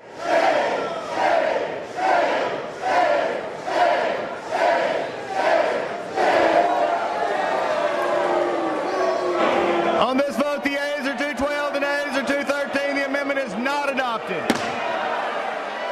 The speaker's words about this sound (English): Sounds like the third quarter of a New York Knicks game. The boos and hissing comes from lawmakers who weren't happy about an amendment that would have removed an anti-discrimination provision